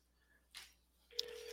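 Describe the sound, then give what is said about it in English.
Over a phone line, a soft click and rustle give way to a steady electronic ringing tone as an outgoing call is placed. The tone starts near the end and holds evenly. It is fairly quiet, with no talking. “It's ringing. Can you hear it?”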